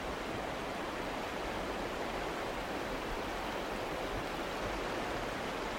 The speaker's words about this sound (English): Just the general outdoor environment of West Forks, Maine. It's always good to be by the river, just listening to it.